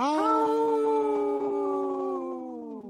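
A single sustained wolf howl, a clear tonal cry with rich harmonics that holds a steady pitch before gliding slightly downward and fading at the end, heard alone without any talking.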